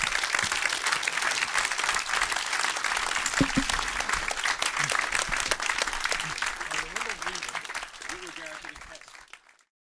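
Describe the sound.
Dense, sustained applause from a large audience, a continuous wash of many hands clapping with a few voices underneath, gradually thinning and fading out near the end.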